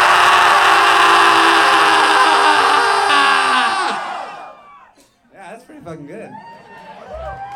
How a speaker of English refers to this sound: So we've been doing scream-alongs. You guys want to warm up with one? So it's 1, 2, 3, go. Don't go on 3, go on go, okay? And you just fucking scream real loud.